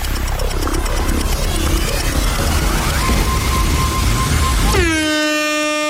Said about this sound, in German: Sobald die Hupe einsetzt, sind 5 Sekunden vorbei